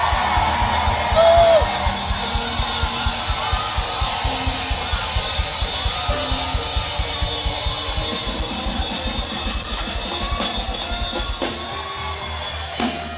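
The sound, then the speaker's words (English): A large church audience erupts in sustained screaming and shouting in gratitude to God, a dense roaring wall of voices with whoops rising above it, loud and continuous over a steady pulsing low beat. “If you are grateful, scream, shout.”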